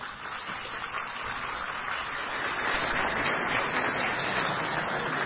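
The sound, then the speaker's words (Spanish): A crowd applauds steadily for about five seconds for representatives of the Afrocaracolas network, a dense wash of clapping that grows a little louder partway through and keeps going to the end, with no voices over it. “quienes nos acompañan en representación de la red Afrocaracolas y para quienes pido brindemos un fuerte aplauso.”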